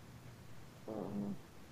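fart

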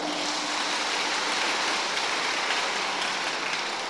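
loud applause

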